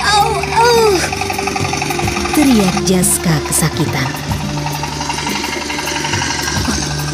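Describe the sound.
A rice milling machine engine runs continuously, a steady low drone with a rapid rattling chug, while a person speaks over it.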